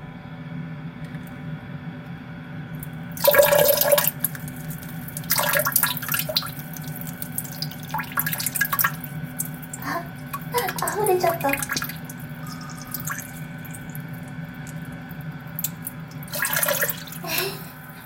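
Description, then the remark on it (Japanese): Urine trickles into a paper cup in a toilet in several short, splashy bursts separated by pauses, with a steady low hum running underneath throughout. “それでは、トイレに到着しましたので、早速おしっこしていきたいと思います。”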